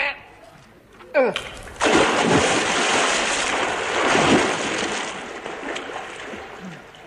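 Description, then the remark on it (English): After a brief quiet moment, an object thrown into a river to test whether it is waterproof plunges into the water with a loud splash, followed by several seconds of rushing, churning water that slowly settles. “help me throw this into the river just to test it.”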